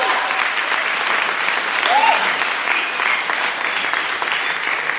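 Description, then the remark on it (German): Steady audience applause for the industrial architect fills the whole stretch, a dense, even wash of many hands clapping at constant loudness, with a brief whistle-like tone rising out of it midway. “Ich frage in der Zwischenzeit nach dem Applaus für den Industriearchitekten.”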